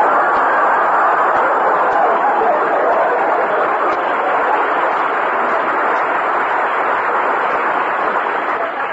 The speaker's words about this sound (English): The high noon train pulled into the station. It came to a stop.